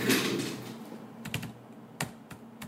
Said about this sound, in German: In der Auguststraße tippt Julian Stoß die letzten Befehle in den Laptop.